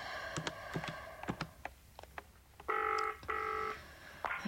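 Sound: telephone dialing and ringing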